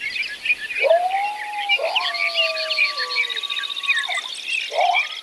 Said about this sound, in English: Because this is what McMahon recorded overnight. The almost total silence of the pre-dawn hours was followed by birds and coyotes waking at dawn.